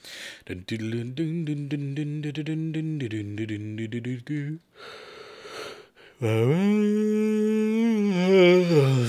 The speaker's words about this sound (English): That was a yawn.